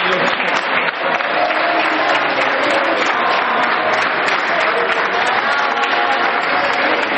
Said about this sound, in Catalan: Van començar a aplaudir ells perquè entraven i nosaltres pel rebre.